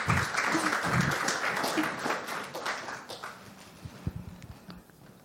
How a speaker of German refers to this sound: Großen Applaus.